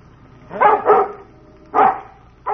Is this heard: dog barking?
yes